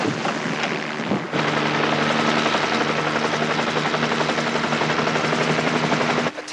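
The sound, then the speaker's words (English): A helicopter lands on the pad, roaring, its rotor throbbing steadily and loudly under a dense wash of engine and wind noise that swells in after a brief rustling start. “Chopper's on the pad.”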